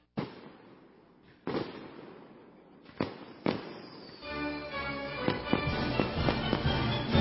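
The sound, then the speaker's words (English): Fireworks at the Anderson Explodes show on July 3rd at the Shasta District Fair burst with several sharp booms spaced apart, then a denser stretch of crackling pops and bangs layered over a sustained rumble and hiss, with no one speaking. “It's that time again for Anderson Explodes on July 3rd at the Shasta District Fair.”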